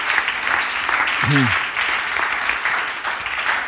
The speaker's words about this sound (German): Wir werden auf jeden Fall dieses Jahr mit schwarzen Zahlen beenden und das ist wirklich klasse. Dafür können wir auch Gott einen Applaus geben.